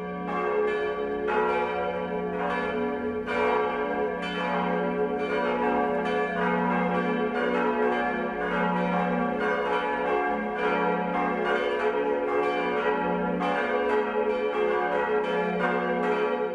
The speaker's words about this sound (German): Es ist 12 Uhr. Das Mittagsläuten kommt heute aus Marquardtstein in Oberbayern.